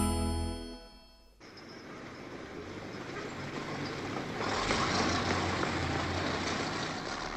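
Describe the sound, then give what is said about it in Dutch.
Busy traffic around a small square in a big, busy city with tall houses: a short horn blare at the start, then a steady, dense roar of honking cars and heavier vehicles racing around the square with screeching tyres, growing louder toward the end. “Ze toeteren en ze vliegen met gierende banden om het pleintje heen waar het ballonnenvrouwtje staat.”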